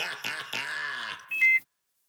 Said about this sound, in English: I'm sitting at the red light. My ankle monitor beeping. Hadn't been charged.